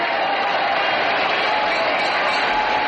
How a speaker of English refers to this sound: And now, for the main event. And here's that stock footage here of whatever crowd this was.